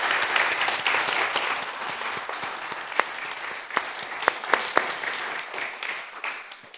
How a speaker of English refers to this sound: Thank you again to our Sunday Club, to our readers. Let's give them all a big round of applause.